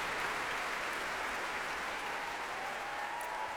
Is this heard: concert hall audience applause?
yes